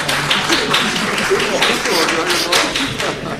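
Steady applause from an audience after a comment in a question session, a dense wash of overlapping claps at moderate loudness that carries on evenly for a few seconds with no clear speech.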